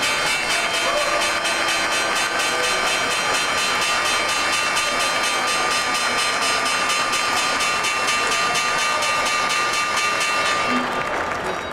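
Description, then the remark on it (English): A semi-loud bell marking the Crunch Exchange segment of the show Crunch Time rings continuously in rapid, even strokes, its bright tone sustained over a dense, rattling wash of noise for about eleven seconds before thinning out at the end. “It's a semi-loud bell. I like the bell.”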